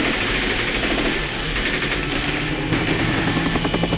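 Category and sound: vehicle, helicopter flying overhead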